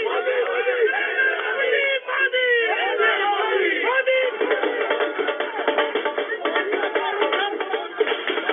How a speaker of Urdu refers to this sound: یہ آواز تھی بی جے پی کے دفتر پر ہونے والی نعرے بازی, ڈھول تاشوں اور پٹاخوں کی.